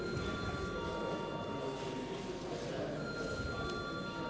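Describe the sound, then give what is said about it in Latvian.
A parliament's continuous electric voting bell rings steadily for several seconds, called before deputies vote on adopting a bill in second reading: a harsh, buzzing metallic clatter with a few high sustained tones running through it, loud and unbroken with no talking. “Lūdzu deputāts balsot par likumprojektu pieņemšanu otrajā lasījumā. Lūdzu zvanu.”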